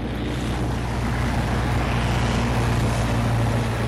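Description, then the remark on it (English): A small plane's engine drones steadily and loudly, a low humming rumble with a rushing, wind-like hiss over it, unbroken throughout with no voices. The plane is taxiing back on runway 24 in Marshall County for a tour by plane of West Virginia and Ohio organized by the nonprofit Frack Tracker. “has organized a tour by plane of West Virginia and Ohio”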